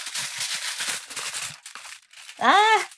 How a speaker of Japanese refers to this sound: はい。じゃあ、水を飲みまして、アルミホイル出していきまーす。ちょ、ガサガサうるさかったらすいません。